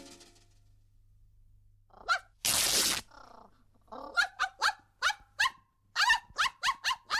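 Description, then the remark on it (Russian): A dog barks repeatedly and loudly, short sharp yaps coming in quick bursts, with one brief harsh noisy blast early on and no talking. “Уберите собаку! Немедленно уберите собаку!”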